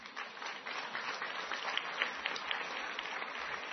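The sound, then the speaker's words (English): Steady audience applause, a dense crackle of many hands clapping at once, holding a fairly even, moderately loud level throughout with no voices standing out. “Before you applaud, listen to the rest of this.”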